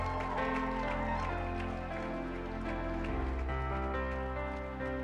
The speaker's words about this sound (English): Come on, church, clap your hands and celebrate.